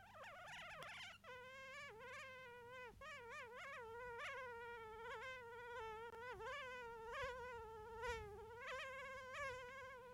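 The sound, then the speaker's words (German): A voice imitates a mosquito with a continuous, high, wavering whine that rises and dips in pitch over about ten seconds, steady with no words spoken. “Die letzten Sekunden, das hat wirklich sich angehört wie eine Mücke.”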